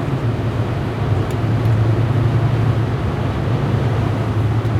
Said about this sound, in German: jetzt muss ich mal kurz gucken, was ich hier noch den LKW überholt kriege.